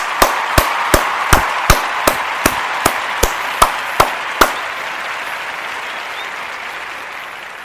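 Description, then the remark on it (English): About a dozen sharp, loud hand claps in a steady, even rhythm, layered over a wash of applause-like noise that keeps going and slowly fades after the claps stop. “Yes, hand clap to all the idiots.”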